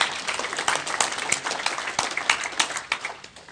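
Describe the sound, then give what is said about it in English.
A crowd applauds steadily, a dense patter of many hands clapping at once with sharp overlapping claps, holding fairly loud throughout before thinning slightly at the end. No one speaks. “And I don't know if you guys are just dumbstruck or just like, wow, because normally that would be like clapping praise God moments in time, right?”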